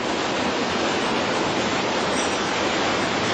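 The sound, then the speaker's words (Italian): Steady, dense, loud rush of water flowing at the municipal aqueduct of Menfi, holding constant for the whole stretch with no pauses or voices. “La prima cosa che ci porta a vedere il sindaco di centrodestra, Michele Botta, è l'acquedotto comunale, il suo orgoglio”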